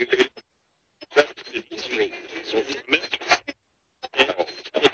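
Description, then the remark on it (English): Radio fragments from a spirit box sweeping through radio static chop in and out in short bursts, thin voice-like snippets and static broken by abrupt silent gaps, moderately loud. “Guys, do you like the echo chamber better than the mini box?”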